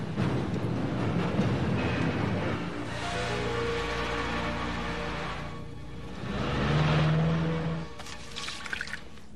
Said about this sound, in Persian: حالا ماشین رو روشن کن و را بیافت.